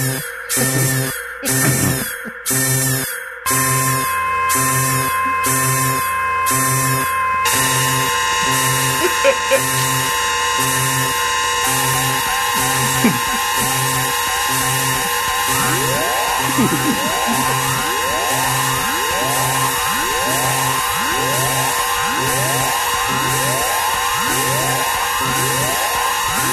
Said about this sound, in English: There you go. That's my alarm clock.